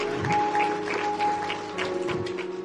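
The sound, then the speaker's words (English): A crowd claps together in praise of the Lord, a steady, dense patter of many hands at moderate volume while a sustained organ-like tone hums beneath. “Give the Lord a hand clap of praise if you will.”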